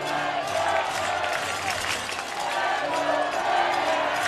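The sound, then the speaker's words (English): A rowdy baseball crowd in Fredericksburg, during the second game of the Carolina League Championship, roars steadily, a dense wash of overlapping voices, shouts and cheering that stays loud and unbroken throughout. “Crowd getting rowdy here in Fredericksburg.”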